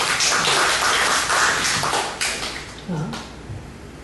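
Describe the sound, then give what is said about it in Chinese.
An audience claps hands for a student in a dense, steady patter that holds for several seconds, then thins and softens toward the end, with a few faint voices mixed in. “就这样而已， 蛮好的，我们给这位同学拍拍手。”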